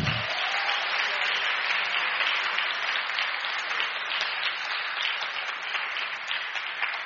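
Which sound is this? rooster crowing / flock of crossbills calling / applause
applause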